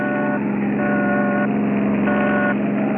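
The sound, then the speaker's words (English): A car with a California plate speeds past from behind with a loud, steady engine roar, broken by three long, evenly spaced horn-like blasts. No one speaks. “We've got company behind us. Get over.”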